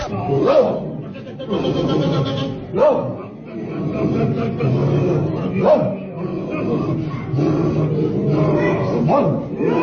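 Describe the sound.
A dog barks and yips in sharp bursts every couple of seconds, fairly close and loud, over a steady murmur of voices talking in the background.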